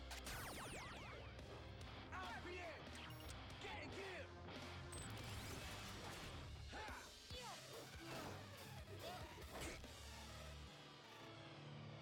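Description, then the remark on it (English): A loud, busy scene of vehicle crashes and metallic impacts, with sharp smashing hits and rushing engine noise over a dense rumbling background, with voices mixed in throughout. “Oh, you hit his car, dude.”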